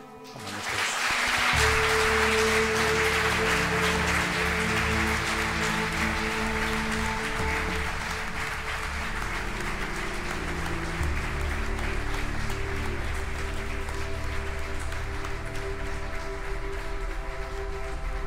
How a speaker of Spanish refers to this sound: Vamos a hacer unas preguntas, pero antes os pido un aplauso.